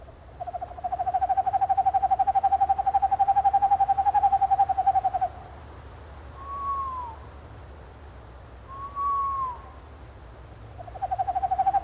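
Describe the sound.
A person imitates boreal and eastern screech-owl calls: a long, steady, rapid trilled whistle, then two short wavering whinny notes, and the trill returning at the end. The calls are clear, with no talking.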